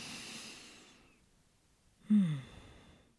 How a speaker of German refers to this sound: Okay, ruhig bleiben. Tief atmen.